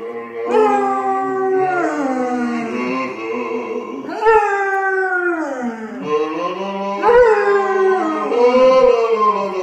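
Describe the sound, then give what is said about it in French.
A dog howls in long, wavering, rising and falling cries while a man singing along with it in the shower holds lower notes underneath, the two voices overlapping loudly, with no spoken words. “Un homme chantant en chœur avec son chien sous la douche.”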